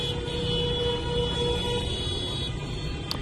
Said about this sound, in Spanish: Los coches de alrededor utilizan sus claxones para apoyar las protestas de la familia de Amini.